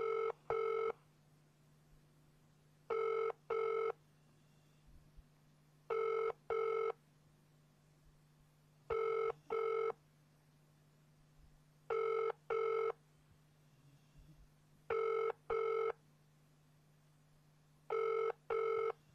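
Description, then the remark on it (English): A telephone call to 999 rings out unanswered in a steady double-pulse pattern, seven paired rings spaced about three seconds apart, clear over a faint low hum, with no one speaking. “Now at 999 won't pick up the phone.”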